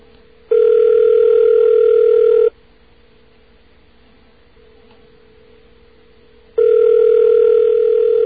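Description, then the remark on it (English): Ringback tone heard over a telephone line while calling the Long Island Rail Road: two steady, buzzing mid-pitched rings about two seconds long, separated by a few seconds of quiet line hiss, with no one speaking. “Long Island Railroad has a tradition of, after a lot of rings, picking up and giving you a recording and leaving you on for a very long time.”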